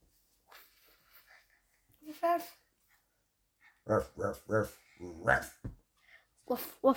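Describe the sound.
A child's voice imitates a puppy barking, giving a quick run of short, yappy barks, with quieter rustling and brief vocal sounds before and after.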